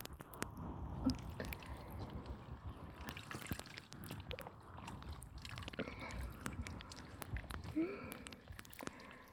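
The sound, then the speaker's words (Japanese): Soft wet squishing and gentle trickling as foam is rinsed away, a steady moist churn dotted with small crackles and drips, no voices. “では泡を流していきますね。”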